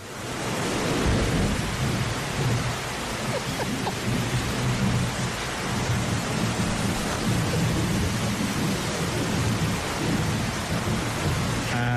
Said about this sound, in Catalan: Pot ser que no se senti del tot, perquè va caure un xàfec nano. Sí, sí, sí. 13 anys que no plovia tant.